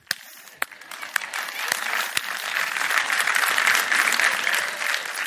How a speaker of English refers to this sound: Now, if you don't believe that, yeah, go ahead. If you're going to clap, go.